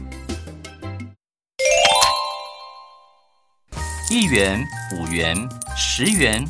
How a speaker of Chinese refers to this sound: 于是他们把铺满里的钱全部倒出来，倒出了好多硬币和钞票。